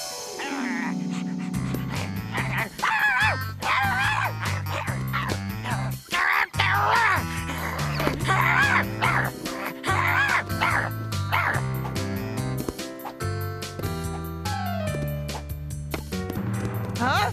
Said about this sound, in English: Oh, no. It's the big dog.